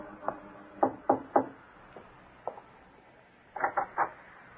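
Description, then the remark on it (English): Knuckles rap on the door of an artist's studio in Greenwich Village, New York, in short bursts: a run of four firm knocks, a couple of softer taps, then three more quick knocks, each sharp and wooden with no voices. “In the early evening of a bright spring day, a young lady climbed the four flights of stairs to the studio of a famous young artist in Greenwich Village and knocked.”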